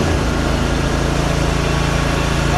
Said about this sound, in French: Le grand camion rouge démarre, chargé d'énormes bidons de produits désinfectants sur sa plateforme arrière. Il se positionne devant l'entrée de la résidence et à l'aide d'un générateur propulse le produit par fumigation dans un grand vacarme.